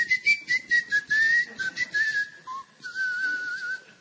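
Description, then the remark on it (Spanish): A person whistles a long, wavering tone for about four seconds, imitating hissing snakes, briefly dipping lower partway through, with a breathy hiss pulsing alongside it; fairly loud, with no talking. “Entrelazadas, enmarañadas, producían un huevo que sostenían en el aire emitiendo silbidos.”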